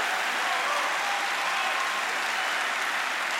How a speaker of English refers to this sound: Come on and clap your hands and believe God. Let your body respond to what you see.